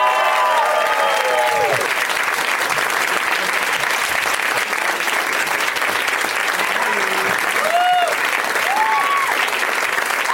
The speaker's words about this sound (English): Please welcome them. Summon them with your applause and love.